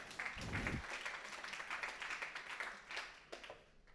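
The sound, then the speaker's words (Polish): A crowd applauds with a steady patter of many hands clapping, fairly soft, continuing throughout with a brief low thump near the start. “Ja bym dla niej klaskał, a wy jak chcecie.”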